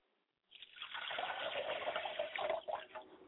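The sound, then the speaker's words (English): Liquid is poured out as a libation in a steady, splashing stream that starts abruptly after a brief moment of silence, with gurgling fluctuations toward the end. “I like to pour libations to my Father's spirit, and I say, Father, drink well, libation.”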